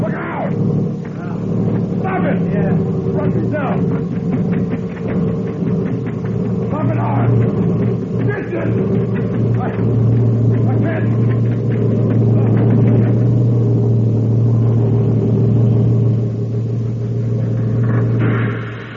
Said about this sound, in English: I saw you fall in front of the truck. I didn't fall. No? I laid down so the truck could pass over me.